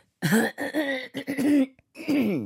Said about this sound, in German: Sie haben sicher auch morgens früh mal so einen kleinen Husten.